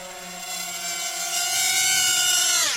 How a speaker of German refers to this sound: Ja, da kommt noch einiges auf unsere Ohren zu, wenn ich hier diese Drohnen höre.